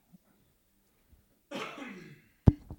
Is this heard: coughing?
yes